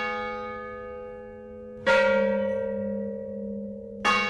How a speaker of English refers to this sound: For the aria depicting Ascension's death, Joseph Weil and Boone made the first recording of the bells of Mission San Juan Bautista. Boone arranged the sound of the bells to accompany a centuries-old Gregorian chant discovered in the mission archives.